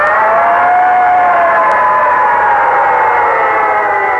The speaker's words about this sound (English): In fact, he wasn't very excited about breakfast until he heard a noise. He looked out the window, and there, roaring down the street, was a great big red fire engine.